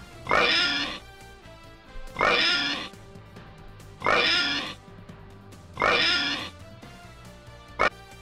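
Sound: person imitating pig oinks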